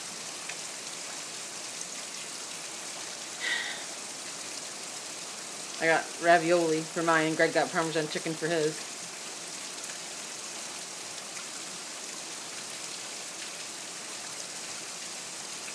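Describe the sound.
Rain from a Florida storm falls in a steady, even hiss that runs the whole length without pause, while a person speaks briefly over it partway through.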